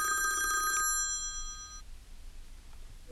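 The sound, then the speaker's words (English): A telephone rings once for an incoming call with a bright, trilling electronic tone that cuts off after under a second, its ringing overtones fading away into a quiet hush. “We got a phone call coming through.”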